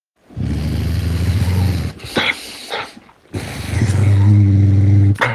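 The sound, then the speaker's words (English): A dog guarding a bone growls low and steadily, two long rumbling growls separated by a brief pause with a short sharper snarl between them, no talking. “Growl A was guarding a bone.”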